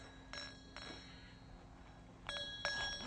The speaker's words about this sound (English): Is this what you want? You want the bell? All right. You want to ring the bell for Mommy? Ring the bell. Come on, bring the bell over here. That's the girl. Come on, bring it over here, honey. You can ring it.